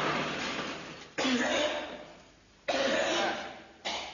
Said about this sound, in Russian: Что ты кашляешь? Вот пойдем в дом офицеров. Пиво выпьем и кашлять не будешь.